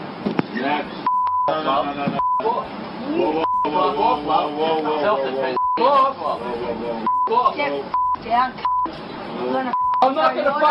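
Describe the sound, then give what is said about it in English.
Several short, steady censor bleeps cut into a stretch of continuous speech, popping up at irregular intervals over about ten seconds, masking swear words in a video filmed on a camera phone. “There's bleeping left and right. Every other word is beep, beep, beep, beep, beep, beep.”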